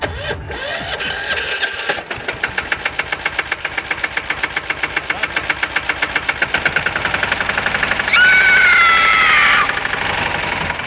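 A cultivator engine sputters to life and settles into a steady, rapid chugging that quickens over time, joined near the end by a higher whining tone as it revs.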